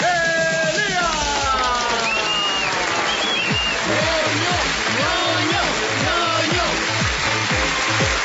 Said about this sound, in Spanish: Recibamos entonces con un fuerte aplauso a Bernardo Miguel, el ñoño.